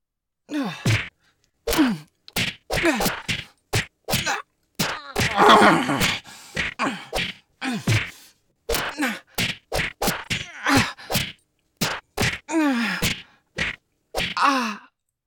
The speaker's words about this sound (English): Fighting for dominance, the two wrestle each other to the ground. Punches and kicks abound.